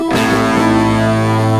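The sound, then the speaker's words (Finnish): A single loud, distorted electric guitar chord in spaghetti western-style music is struck and left to ring out, sustaining richly for over a second with no voices present. “Ja totta kai kitara kruunaa tunnelman.”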